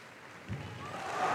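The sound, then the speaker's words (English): A large opera audience applauds and cheers for Placido Domingo as he throws his arms wide to them, a dense wash of clapping that swells steadily louder over the moment. “The cheers are for Placido Domingo, Arturidu.”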